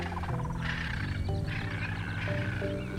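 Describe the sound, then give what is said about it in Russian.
A lion roars and growls in low, rumbling bursts, layered with other animal cries, from an animal documentary being watched. The sound stays loud and continuous for about three seconds. “Ты смотришь документальный фильм о животных?”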